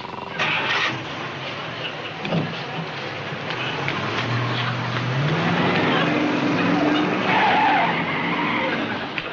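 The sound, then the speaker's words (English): Tires skid loudly as a car revs its engine and accelerates away, the engine pitch climbing steadily beneath a rough, continuous screech that lasts several seconds. “Hey, stop that car!”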